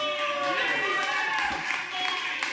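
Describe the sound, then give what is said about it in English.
A crowd cheers and whoops loudly and continuously at a live radio show, many voices overlapping with scattered clapping underneath, sustained for the whole moment. “What a crowd.”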